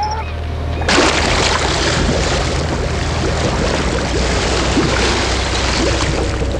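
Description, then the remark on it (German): After a brief quiet hum, a motor is started and a cable winch lifts the submersible Deep Quest, groaning, up over the sea until it half dips into the water; the machine runs steadily, a low motor drone mixed with a constant rushing, sloshing wash of sea water. “Mr. Evans warf den Motor an und die Seilwinde hob die Deep Quest ächzend in die Höhe, bis sie über dem Wasser schwebte.”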